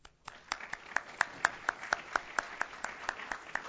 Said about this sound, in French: Voilà, on l'applaudit.